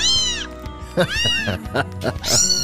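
animal, kitten meowing

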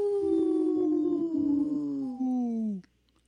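animal, wolf howling

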